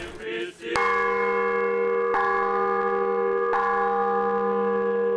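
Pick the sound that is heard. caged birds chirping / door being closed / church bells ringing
church bells ringing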